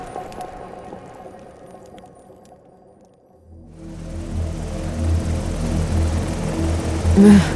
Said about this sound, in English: The changing pitch of the helicopter rotors woke Anya from her restless sleep.